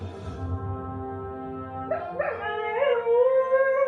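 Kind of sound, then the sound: animal, dog howling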